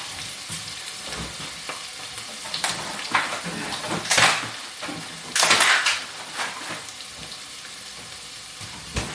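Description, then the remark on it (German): Onions for a chili sizzle and crackle steadily in a hot pan, with two louder bursts of hissing midway and a few scraping, clinking touches of a utensil against the pan. “So, meine Zwiebeln sind drin.”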